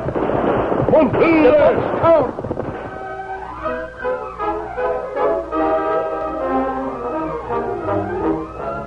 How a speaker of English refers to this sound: It seemed only a few seconds later that they heard shouts behind them. The outlaws had discovered they were trying to escape. They opened fire.